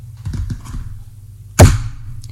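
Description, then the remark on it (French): Knocking on a wooden door marked with the number 5652: a couple of soft, dull thumps, then a single loud, sharp knock that rings out briefly before fading. No voices. “frappe à la porte”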